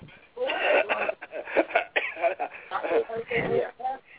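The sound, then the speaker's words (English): A man's coughing spasm: a string of harsh, throaty coughs and throat-clearing bursts comes in quick repeated fits, fairly loud, with a thin, muffled quality. “so I think he might have had a coughing spasm.”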